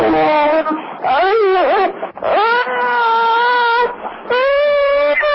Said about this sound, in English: I think that's a bit too loud, is it? Well, all I heard was a child crying, but